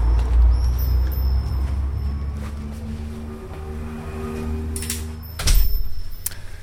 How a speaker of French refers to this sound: Allez, on pousse la porte et on rentre dans la boutique.